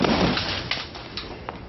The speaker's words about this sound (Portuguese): Bati! Bati a porta!